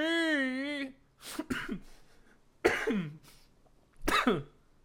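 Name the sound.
coughing fit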